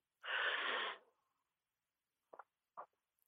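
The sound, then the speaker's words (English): An audible deep breath rushes out in one long airy exhale during a guided deep-breathing exercise, followed after a pause by two brief soft breathy sounds, with no talking. “So we'll take some deep breaths together.”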